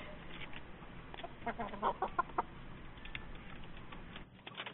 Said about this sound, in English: That's a rooster, sir.